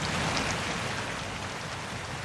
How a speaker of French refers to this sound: Ce 5 novembre, Grès se réveille sous la pluie.